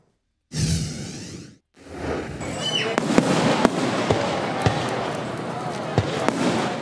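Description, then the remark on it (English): Fireworks go off outdoors at the town's 4th of July fireworks in Morrisville, attended by thousands of families: a whooshing burst at the start, then a steady stream of sharp pops and bangs at irregular intervals over a constant roar of crowd noise. “Thousands of families came out to Morrisville last night to enjoy the town's 4th of July fireworks.”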